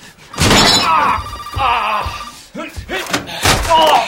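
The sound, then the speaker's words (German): A mobile phone rings with a loud, repeating electronic tone, mixed with clattering thumps and knocks over roughly four seconds. “Ich denke, Sie hassen es, wenn man nicht rangeht.”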